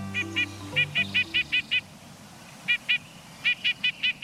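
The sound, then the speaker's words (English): A nuthatch gives quick series of short, nasal, honking notes, several in a row, pausing, then repeating. Low tones fade out at the start, and a soft background hiss runs underneath. “Have you noticed a sleek, stub-tailed bird pecking its way down a tree trunk? It's probably a nuthatch.”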